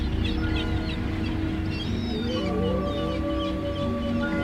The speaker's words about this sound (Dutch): Nou, terwijl de motoren nog doordraaien op de achtergrond, zoals je hoort, gaan wij afscheid van u nemen, lieve luisteraars van de Goed Nieuws Radio.